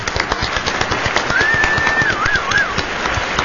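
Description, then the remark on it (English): Steady, dense audience applause for a band, many hands clapping at once in a loud crackling wash, with a single whistle rising and wavering through the middle of it. “Would you please give it up for …?”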